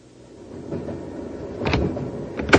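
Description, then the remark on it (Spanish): An inspector rolls open a sliding passenger compartment door against the steady low rumble of a moving train, with a soft scrape followed by a sharper latch clack near the end. “Un inspector abre la puerta.”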